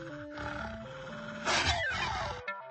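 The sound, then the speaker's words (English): Wolves snarl and attack, eating a man in a game program, in a loud, rough burst of growling and roaring lasting about a second, cutting in over steady electronic tones, with no one talking. “I get past the giant's drink and the wolves eat me?”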